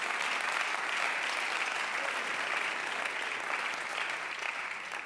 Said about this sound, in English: Somebody clap your hands for the Word.